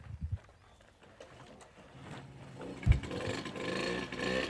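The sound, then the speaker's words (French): A voice imitates a 103 moped engine: a low, sputtering buzz that revs up and grows louder halfway through, with a sharp pop, then holds a raspy, rattling drone to the end. “Bah, elle fait super bien le bruit de la 103.”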